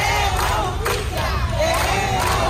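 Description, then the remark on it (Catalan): A crowd of relatives of the victims of a shooting in the Font de la Pólvora neighbourhood of Girona shouting together outside the courthouse doors, a dense, continuous roar of overlapping angry voices with occasional louder cries rising above the mass, steady and loud throughout. “Són els familiars de les víctimes del tiroteig del barri de la Font de la Pólvora de Girona a les portes dels jutjats, on ja han passat a disposició judicial 3 dels detinguts dimarts a Granada.”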